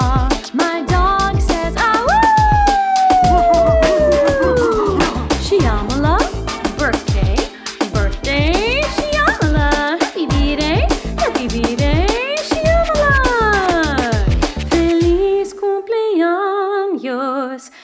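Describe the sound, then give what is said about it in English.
A pet dog howls in long, rising and falling wails over loud birthday music with a steady, driving beat; near the end the howling stops and a softer melody plays. “My dog says, to you, Shyamala.”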